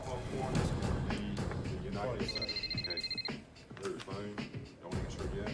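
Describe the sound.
A telephone rings once in a rapid, trilling electronic burst lasting about a second, clear and fairly close, with voices talking around it and a busy background underneath.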